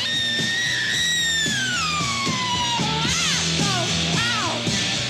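A singer's long, raw scream wails over loud, driving band music, the held note sliding slowly downward before breaking into short rising and falling shrieks.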